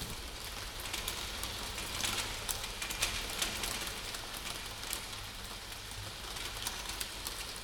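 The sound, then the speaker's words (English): Steady rain pours down in a dense, continuous hiss, with countless small drops pattering and crackling on a hard surface. The level stays even throughout, and no one speaks. “I used to like listening to rain.”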